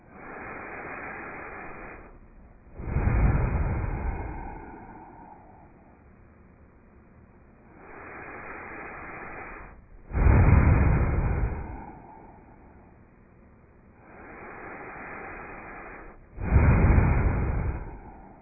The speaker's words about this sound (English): The second round, or now the third round, not from the mouth, from the nose, from the both nostril, inhale and in with exhale, okay? Inhale 3 times. Oh, long, slow, all the way in, all the way out.